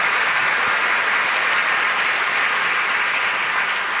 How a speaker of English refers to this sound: Let's give our panel a round of applause for being here tonight.